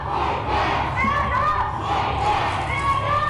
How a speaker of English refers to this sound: The group chanted that they were going to stand up and fight back as they plastered the street, sidewalk, and the building with red paint.